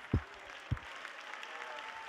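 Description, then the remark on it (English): A crowd claps in a steady, dense wash of applause that fills the whole clip, with two dull low thumps breaking through near the start. “Come on, one more time, a hand clap of victory.”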